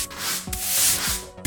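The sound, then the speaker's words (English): Scratchy bristle strokes sweep across a hard floor in a steady brushing rhythm, with faint gritty scraping as if broken bits are being gathered up. No one speaks. “As was the sweeping up channel.”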